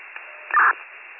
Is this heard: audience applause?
no